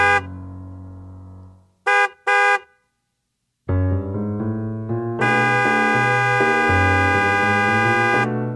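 A car horn blares in a long sustained honk, followed by two quick short toots, then a long, loud, unbroken blast. The honks are close and there is no talking.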